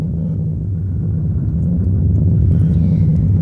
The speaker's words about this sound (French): Ah, mon Dieu, quelle tempête! Je suis sûre que mon étoile va disparaître comme toutes les nuits de tempête.